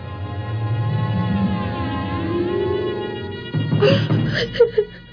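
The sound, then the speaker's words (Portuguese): A boy cries in the town of São Vicente: a long drawn-out wailing whimper that wavers in pitch before breaking into short, uneven sobs. No one speaks. “Ei, que há com você, rapazinho? Por que está chorando?”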